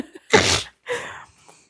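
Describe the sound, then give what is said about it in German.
A single loud sneeze, a sharp explosive burst followed by a softer breathy release and a faint exhale. No one speaks. “Also es juckt dir die Nase. Eventuell niese ich demnächst.”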